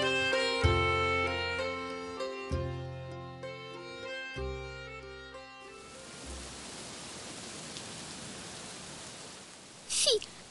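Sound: heavy rain pouring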